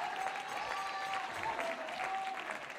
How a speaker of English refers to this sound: Get those hands up. Clap those hands. Lift that voice.